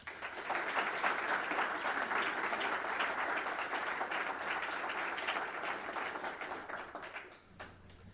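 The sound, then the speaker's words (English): A crowd applauds steadily for about seven seconds, welcoming speaker Matt Simmons to a talk on ocean energy: dense, loud clapping that holds even throughout before tapering off at the end. “Please help me provide a very, very warm welcome to Matt Simmons.”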